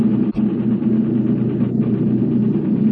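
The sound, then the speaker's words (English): A steady, loud aircraft engine drone fills the whole stretch, a continuous low rumble with a humming mid tone and one brief thump near the start, with no voices. “These engines have got to get us back.”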